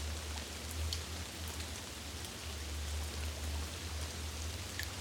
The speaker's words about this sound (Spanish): Al principio te resistes y la lluvia cae sobre tu cabeza, sobre tu ropa. Siéntela.